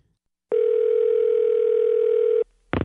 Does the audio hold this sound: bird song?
no